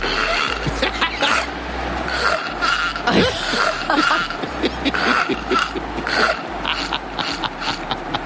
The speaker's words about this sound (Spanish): Bueno, ayer te pedíamos que si tenías a un ser humano roncando al lado que no pareciera un ser humano, nos lo enviaras.